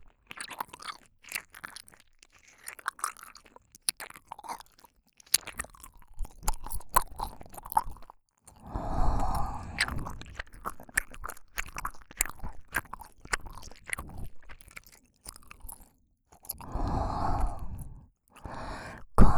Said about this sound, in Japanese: 咀嚼音で興奮するとは、また随分と特殊な性器をお持ちなんですね。